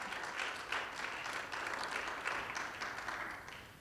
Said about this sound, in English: That's a good place to give the Lord a good clap offering. Amen.